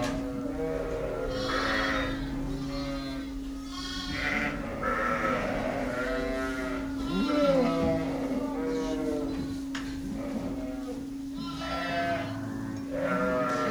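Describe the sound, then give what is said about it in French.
Many ewes, about 260, bleat over one another in a sheepfold as their morning meal is prepared, with a hay-distributing machine starting and stopping; overlapping calls rise and fall continuously above a steady mechanical hum. “Alors ça, c'est la machine à distribuer le foin qui se met en marche et qui s'arrête, puisque c'est l'heure où là, on nourrit, enfin on prépare le repas du matin pour les brebis.”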